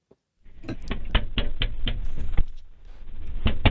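Someone knocks on the window of a police car: about ten sharp, hard raps in a quick, uneven rhythm, a brief pause, then a couple more knocks, over a steady low background rumble with no talking.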